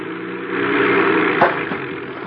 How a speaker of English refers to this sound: I bring the plane down and land it on the lake.